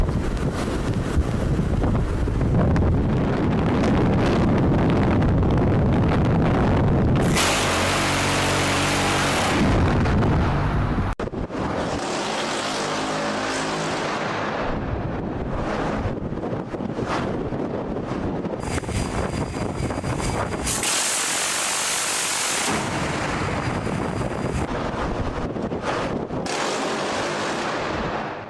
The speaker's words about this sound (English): They have one that's on naval vessels that's known as the Phalanx, and this sucker is baller as hell, and this thing can actually shoot things